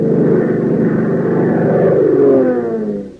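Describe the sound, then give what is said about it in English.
A twin-engine Cessna cabin monoplane circles high over Lakeville at night: a steady, droning propeller engine hum, its pitch gently sliding downward as it passes, loud and continuous with no voices. “A twin-engine Cessna cabin monoplane circles high over Lakeville, out of earshot of Hop and Tank down on the field.”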